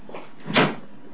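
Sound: door being shut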